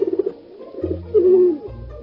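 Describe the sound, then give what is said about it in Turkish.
A tumbler pigeon coos: a quick run of soft pulses, then a longer rolling, throaty coo with low hum-like tones underneath. No voices. “Aa, bu bir güvercin. Hem de taklacı bir güvercin.”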